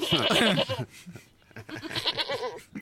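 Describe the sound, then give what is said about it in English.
A goat bleats loudly in two wavering, quavering cries separated by a short pause, the second slightly longer and more drawn out. “When Kel ever visits again, can we just play goat noises?”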